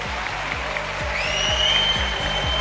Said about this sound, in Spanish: Algo que en esta ocasión realizamos desde Arroyo Molinos, desde su flamante auditorio, rodeado de cientos de amigos que han venido a celebrar este programa especial con nosotros. Un aplauso, os pido que se sienta, que estamos aquí.